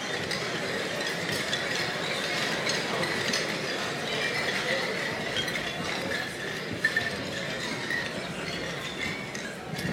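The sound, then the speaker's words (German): A couple of light clinks of drinking glasses in a toast ring out briefly against a steady, noisy background hum, with no voices. “Ja, wir trinken zu wenig. Prost auf klare... Auf klare Hierarchien, Prost.”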